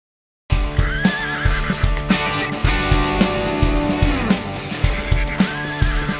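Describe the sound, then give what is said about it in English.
A horse whinnies over a steady, rhythmic clip-clop of hooves while visitors ride to Mount Rushmore in the Black Hills of South Dakota, the neighs rising and falling loudly above the continuous trotting beat. No one speaks. “One day, they visit Mount Rushmore by horse.”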